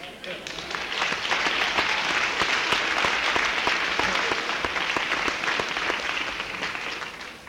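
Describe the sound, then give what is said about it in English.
An audience breaks into sustained applause, a dense crackle of many hands clapping at steady loudness for several seconds before beginning to thin toward the end. “Now, dollars for the claps.”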